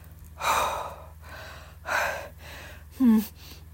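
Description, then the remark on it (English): Heavy panting with three loud gasping breaths spaced about a second apart, the last one catching into a brief high-pitched squeak, over a faint steady hum. “Hopefully I can actually get full sentences out and I'm not just panting or squeaking.”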